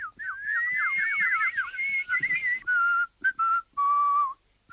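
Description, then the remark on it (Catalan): A caged bird at an Austrian inn sings a whistled melody, opening with quick warbling runs and trills, then holding several clear, steady notes broken by short pauses. There are no voices. “L'ocell la canta. Està cantant la cançó.”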